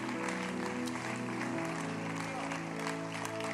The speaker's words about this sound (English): I think your clap is anemic, huh?